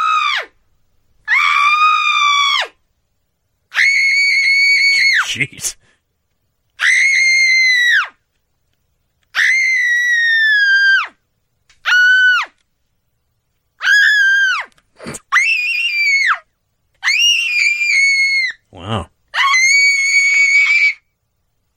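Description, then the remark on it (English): A woman screams over and over in a sound effect about 25 seconds long: about ten loud, high-pitched, piercing shrieks, each a second or two long and separated by brief silences. “But here's Screaming Woman.”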